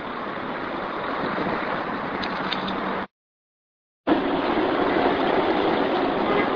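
A bus engine runs with a steady, loud droning rumble and broad road noise, cutting out abruptly for about a second of silence before resuming just as before. Nobody speaks.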